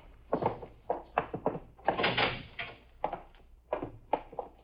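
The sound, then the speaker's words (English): A door is handled and pushed shut, with a series of clunks and thuds plus a longer scraping rattle in the middle, and no voices. “Lock the door.”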